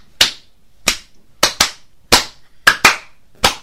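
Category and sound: human body sound, hand clapping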